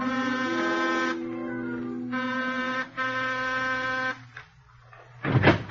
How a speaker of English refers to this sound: And this time, I used the front entrance of her apartment. And at exactly 9:13, I was ringing Diane's doorbell.